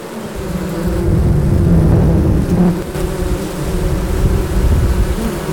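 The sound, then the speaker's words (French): A dense, continuous drone of many honeybees buzzing at once as they work, steady, with a low rumbling undertone and no voices. “Et voilà, les abeilles au travail.”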